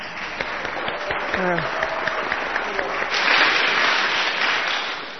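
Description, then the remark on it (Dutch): Steady crowd applause for a violinist's playing and the rest of the band fills the whole stretch, a dense crackle of many hands clapping that swells louder in the final seconds, with a brief vocal whoop or cheer rising through it. “En ik stel voor dat we daar even voor applaudisseren.”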